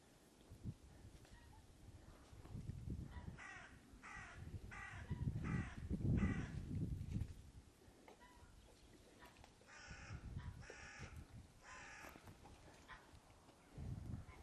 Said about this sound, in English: A couple of crows. They're just going to mess about over there, I think.